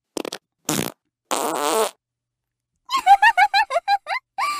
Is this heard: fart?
yes